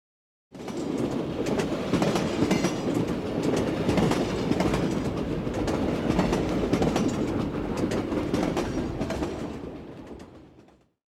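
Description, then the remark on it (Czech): A direct passenger train rolls steadily along the rails, its wheels clattering in a continuous rhythmic clickety-clack with a low rumble, loud, fading out at the end; no one speaks. “je to přímý vlak, nebo musíme někde přestupovat?”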